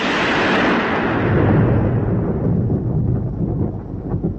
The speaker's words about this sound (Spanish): Retumbó un trueno y el escenario de la tragedia quedó sumido en una nube de humo.